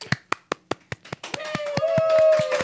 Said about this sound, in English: That was a muted clap. Yeah. I've never heard one.